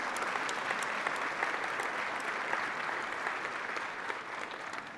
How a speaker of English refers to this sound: Now give them a huge round of applause and stay standing.